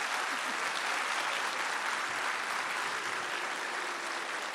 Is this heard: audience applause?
yes